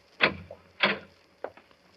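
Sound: door opening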